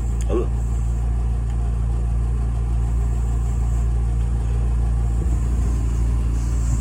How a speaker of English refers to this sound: Smells like burnt rubber. Is my truck on fire? No, my truck is fine. You know, the idiot is just there burning rubber.